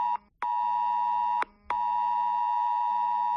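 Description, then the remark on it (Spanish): A loud, piercing electronic alert tone holds steady, broken by a couple of brief gaps and clicks: a mobile phone emergency alert sent by Civil Protection to warn of a risk situation, blaring on its own with no voices. “Es lo que suena en nuestros teléfonos móviles cuando Protección Civil quiere avisarnos de una situación de riesgo.”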